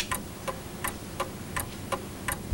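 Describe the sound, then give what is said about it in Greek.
Steady mechanical ticking at an even pace, roughly three clicks every second, crisp with a faint background hum and no voices. “Μετρονόμο, τι έχει. Ποιος θα το σπάσει το ρολόι αυτό πρώτος.”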